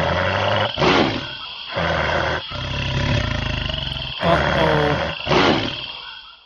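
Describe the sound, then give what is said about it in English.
A tiger snarls and growls loudly at an elephant carrying a rider, warning it not to come any closer, with several rough, throaty bursts separated by brief pauses, rising into harsher roaring peaks near the start and end. “Do you think the snarling sound means Salmi wants to attack the elephant?”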